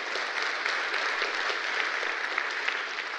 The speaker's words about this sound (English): You can clap for him, sure. Why not?